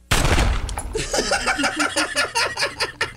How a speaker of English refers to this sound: Captain, I heard a gunshot. What happened?